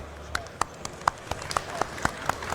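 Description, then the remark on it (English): Sparse audience applause for a talk on the Forth programming language: about ten sharp, separate claps at an uneven pace, crisp and moderately loud over a low background murmur, more like a few hands clapping than a full crowd. “So, please, dear audience, applause for Tom Twiddlebit and the fourth programming language.”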